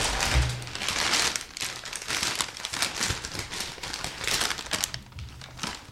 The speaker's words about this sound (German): Da ist eine Tüte drin vom Bäcker. Mhm. Okay. Und da soll ich jetzt gucken, was drin ist. Mhm. Wird jetzt geraschelt.